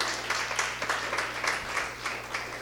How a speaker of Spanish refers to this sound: Gloria a Dios por la paciencia. Dale un aplauso al Señor por su paciencia.